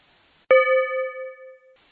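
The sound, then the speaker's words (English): A single bell chime strikes sharply, signalling the start of breakout groups, and rings out with a clear, mid-pitched tone and bright overtones, fading smoothly over about a second. There is no talking. “So feel free to start when you get into your group, and you'll hear a bell that'll be the beginning of your groups.”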